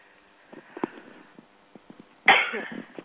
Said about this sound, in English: Excuse me, I sneezed. First time I sneezed on radio. Sorry about that.